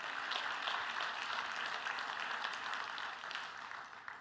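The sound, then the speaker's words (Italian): An audience at a church service applauds for Jesus with dense, steady clapping that sustains evenly for several seconds before easing off slightly at the end, with no talking over it. “Fai questo applauso più forte per Gesù.”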